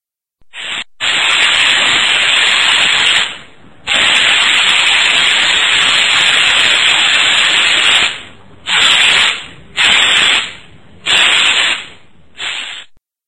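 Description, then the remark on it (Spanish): A paint spray gun, given as 98 decibels, hisses loudly in bursts: two long sustained sprays followed by four short blasts, harsh with a broad airy hiss, no voices. “98 decibeles. Un rociador de pintura en spray.”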